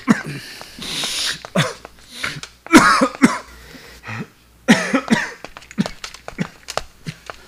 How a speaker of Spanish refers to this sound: Oye, hermano, estás tosiendo con sangre.